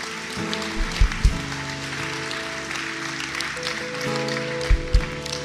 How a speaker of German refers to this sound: Gib dir mal all denjenigen Applaus, die heute diese Entscheidung getroffen haben.